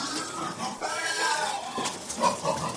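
Corsican pigs grunt and squeal in a steady, overlapping chorus, several animals, with nasal snorts and higher-pitched squeals rising throughout the short stretch.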